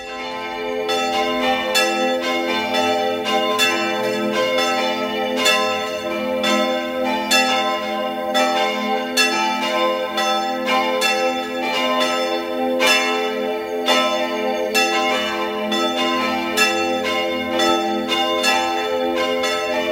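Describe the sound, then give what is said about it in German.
Several church bells of the Dreiheiligenkirche in Innsbruck, Tyrol, peal together continuously at 12 noon, their overlapping strikes forming a loud, dense, ringing wash of tones with no pauses and no voices. “Es ist 12 Uhr. Sie hören die Glocken der Dreiheiligenkirche in Innsbruck, Tirol.”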